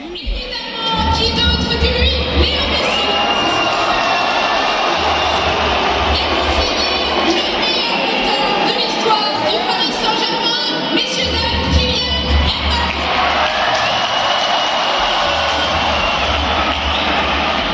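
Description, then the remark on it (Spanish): A large stadium crowd of the Paris home fans roars steadily for the whole stretch, with whistles and shouts piercing the dense wall of noise and a low rumble underneath, as Messi and Mbappé are announced over the public address system at a match against Rennes; Messi is whistled and Mbappé is cheered. “Público de París cuando por megafonía han mencionado a Messi y a Mbappé.”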